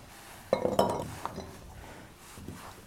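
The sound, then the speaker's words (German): Small glass jars clink and knock together as food is spooned into them, with a cluster of bright taps near the start and softer scraping afterward. No one speaks. “Gut, dann füllen wir mal ein.”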